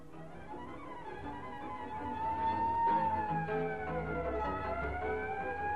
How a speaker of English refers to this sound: Oh, thank God. The ambulances have come at last.